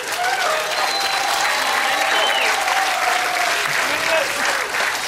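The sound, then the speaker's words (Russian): A crowd claps steadily for about five seconds, a dense, even wash of applause at a constant loud level with no one speaking over it. “Давайте аплодисменты.”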